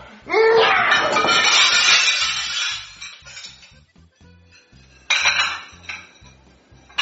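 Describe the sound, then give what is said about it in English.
A loud crash of dishes and pots clattering and shattering as a tablecloth is yanked off a table, with a long jangling cascade that fades, then a second smaller burst of clinking crockery a few seconds later. “What was that loud noise? What happened to my dishes?”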